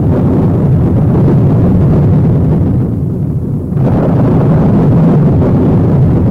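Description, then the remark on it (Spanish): A thunderstorm: heavy rain pours in a steady, loud roar while deep thunder rumbles underneath, easing briefly midway before surging back at full strength. “Y estando perdido, se formó una tormenta muy grande, con truenos y relámpagos y una lluvia espantosa.”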